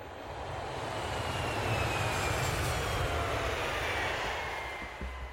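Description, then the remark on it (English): A steady airplane engine drones through the whole stretch, a broad rushing roar with a deep low rumble underneath, swelling slightly in the middle and holding constant without any voices. “I'd barely slept on the plane.”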